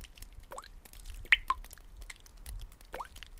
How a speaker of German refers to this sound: Die ersten dicken Tropfen auf Asphalt nach einem heißen Sommertag.